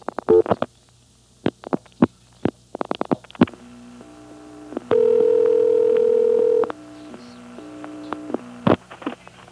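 A low electrical telephone-line hum on a call to code 414, a telephone repair service, with steady tones that cut in and out in uneven steps, punctuated by sharp clicks and pops, including one longer sustained stretch in the middle. No voices.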